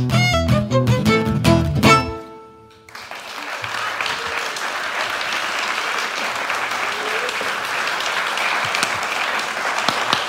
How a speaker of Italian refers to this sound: Cioè, ma facciamocelo tutti insieme questo applauso.